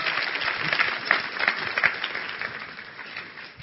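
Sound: audience applause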